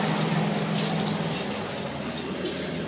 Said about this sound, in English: We just had a little sit down on a brick wall there to have a little stable recording, but we're on the move again, just like these massive trucks that are cruising by behind us.